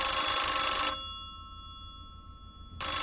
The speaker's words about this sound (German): Aber ich habe mir erst neulich ein Festnetztelefon mit Wählscheibe gekauft. Den Fernsprecher W48 aus schwarzem Bakelit, der mit zwei Schellen klingelt.